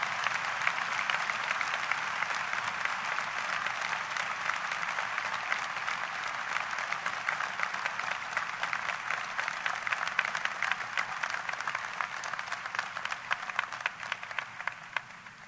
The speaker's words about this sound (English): you gave them a hearty round of applause. I want you to do it one more time. Thank you.